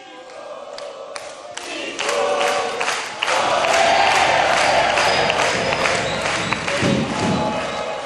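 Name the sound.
audience applauding and cheering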